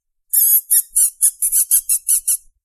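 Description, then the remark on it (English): A person squeals through pursed lips in about nine quick, high-pitched bursts, a loud, mouse-like whistling squeak repeated in a steady rhythm with no talking, made to call a female animal over; it is said to sound like a mouse. “She does not respond to her name, but will respond to me when I make a high-pitched, whistling, squealing noise when I try to call her over. This is the noise.”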